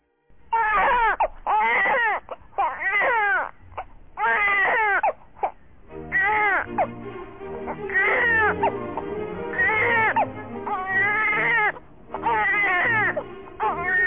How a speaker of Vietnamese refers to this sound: Sau cùng là tiếng khóc oe oe thực sự của đứa nhỏ, trong khi nó cố gắng cử động một cái đầu nhỏ nhắn. Nó vẫy tay, vẫy chân, cùng với tiếng khóc dài 9 tháng của trẻ sơ sinh.